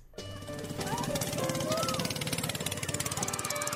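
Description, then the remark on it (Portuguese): A boat motor chugs steadily and loudly, its rapid rhythmic pulsing continuing throughout, with indistinct voices briefly heard over the engine noise, as the boat travels to isolated communities in the interior of Marajó island, Pará, Brazil. “É de barco que o programa Criança Feliz do governo federal chega até algumas das comunidades isoladas do interior da ilha de Marajó, no Pará.”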